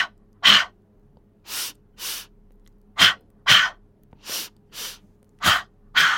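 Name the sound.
breathing in through nose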